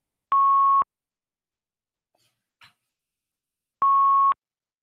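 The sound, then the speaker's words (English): Two loud, steady electronic beeps on a phone line during a BlogTalkRadio call, each about half a second long and spaced roughly three seconds apart, with near silence and a faint click between them. “Tim is beeping. That means he's going to go.”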